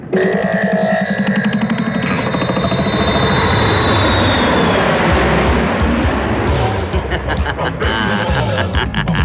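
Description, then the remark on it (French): Airplane engines warming up with a loud, steady roar, a high whine drifting across the first half before the rumble grows rougher and more sputtering toward the end. “tu peux faire chauffer l'avion, s'il te plaît?”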